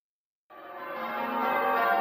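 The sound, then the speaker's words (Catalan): After a brief silence, church bells burst in with a rich, ringing wash of overlapping tones that swells steadily louder and resonant, with no voices, opening the Ràdio Estel wedding programme Temps de Bodes. “Sonen campanes.”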